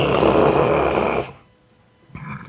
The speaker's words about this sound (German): Das hörst du dann auch, das ist so ein Rülpser.